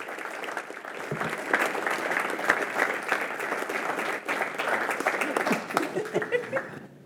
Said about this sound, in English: Big round of applause